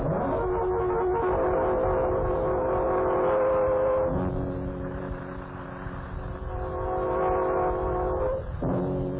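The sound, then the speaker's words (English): A train rolls steadily along the rails about 20 miles from the next stop, with a continuous heavy rumble, while long sustained horn-like tones sound over it throughout, ending in a brief shift near the close. No one speaks. “I've got to get off the train. Stop the train, conductor.”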